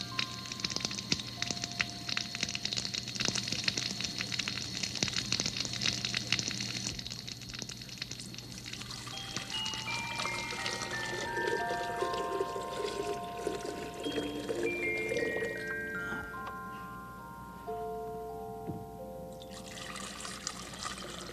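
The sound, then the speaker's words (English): Steady rushing water, like a small waterfall, as water is poured back and forth, with soft tinkling musical notes stepping up and down over it. No one speaks. “King Friday the 13th would like to have a waterfall at his castle in make-believe”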